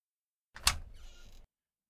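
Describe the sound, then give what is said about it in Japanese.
A sound effect of a new door appearing: a sharp whooshing thud that settles into a shimmering, sliding hiss lasting under a second, heard alone with no talking. “新しい扉が出た。次の部屋で現実に戻れればいいんだが。”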